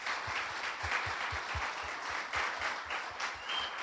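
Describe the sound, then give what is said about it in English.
A church audience applauds steadily for several seconds, a dense, even patter of many hands clapping at once with no pauses and no voices standing out. “So if you can't thank Next Level for nothing else, we need to celebrate and clap for a minute about how much they show you the love.”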